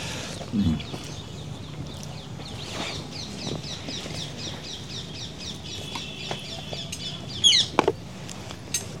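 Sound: parrots calling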